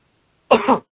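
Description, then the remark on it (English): A single short, harsh cough or throat-clear from a person having a coughing fit, fairly loud, lasting about a third of a second after a moment of silence, with no talking. “Okay, I was having a coughing fit, so that's why I was hoping you would ask the question while I could just grab something to drink, but okay.”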